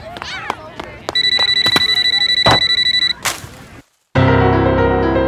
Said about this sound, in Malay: Semua teman menoleh ke arah Mira karena terdengar dering telepon genggam dari saku celana Mira.